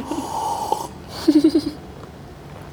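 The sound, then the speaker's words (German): A noisy, airy slurp of coffee during a drinking break, followed by a quick run of soft, low gulping pulses, then quiet. No one speaks. “Müssen wir jetzt schlürfen, damit die Hörer hören, dass wir jetzt gerade eine Trinkpause machen? Ich habe das schon gerade gemacht.”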